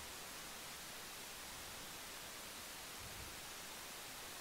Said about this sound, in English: Play it static again. Don't look at the light. Look at the static on the screen.